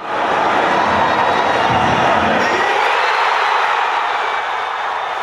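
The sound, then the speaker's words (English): A large crowd of soccer fans in Kansas City roars and cheers in celebration of the USA's 2-1 victory over Ghana, a dense, sustained wall of shouting voices that stays loud throughout, with the low rumble thinning out midway. “And it's not just a bunch of Brazilians cheering down there. Lots of Americans there. And here, sound from Kansas City at that victory.”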